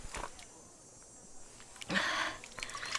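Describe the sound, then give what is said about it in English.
Water is poured briefly for someone to drink, a splashing burst lasting about half a second over a quiet hiss, with a few faint clinks and shuffles around it. “Here, have some water. It will refresh you.”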